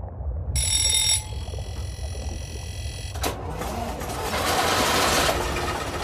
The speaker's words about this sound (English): It was the noise of the Gardner engine on the Australis.